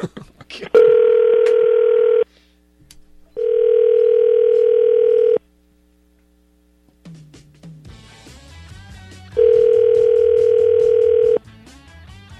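A phone call to the speaker's sister on her birthday rings out unanswered: three long, steady, buzzy ringback tones separated by pauses, with muffled voices and clatter rising underneath during the last ring.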